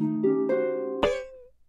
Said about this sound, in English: They tried strumming.